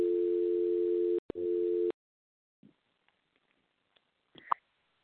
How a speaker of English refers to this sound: Oh, sorry. I heard a dial tone there. Yeah, I did too.